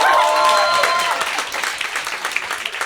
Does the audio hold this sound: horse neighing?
no